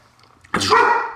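A dog lets out one sudden, loud bark that rings on briefly after a quiet moment, with no one talking over it.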